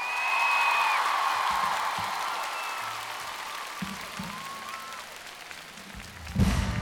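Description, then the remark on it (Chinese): A concert crowd in Taipei applauds the band's musicians steadily, with shrill whistles and cheers rising above the clapping early on. The noise slowly thins, then a loud burst of cheering and clapping swells at the end. “谢谢我们的乐手朋友们，给他们点掌声 ，Come on， 台北。”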